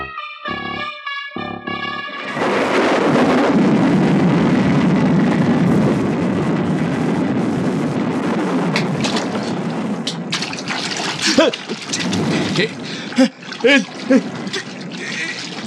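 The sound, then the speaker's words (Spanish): A brief tonal musical sting gives way to a loud, sustained roar of storm waves crashing against rocks, the churning water surging continuously, with sharper splashes and bursts breaking through toward the end. “Me arrojan estas olas contra las rocas.”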